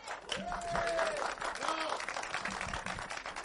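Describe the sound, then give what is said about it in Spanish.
An audience at the first TDC Weekend applauds in a dense, steady wash of clapping that holds for the whole stretch, with a rising whistle and a few cheering voices mixed in. “Por favor, un aplauso.”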